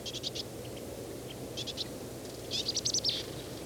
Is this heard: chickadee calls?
yes